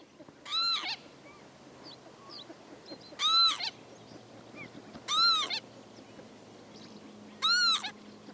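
Four wheezy, nasal northern lapwing calls, each a short rising-falling 'pee-wit', ring out at irregular intervals of about two seconds, clear over a low, steady background hum.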